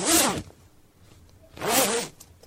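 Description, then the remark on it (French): Two quick zipper pulls of a special space suit being zipped up, each a loud bright rasping zip about half a second long, separated by a short pause, with no talking. “Le chien et le poisson rouge enfilèrent une combinaison spatiale spéciale.”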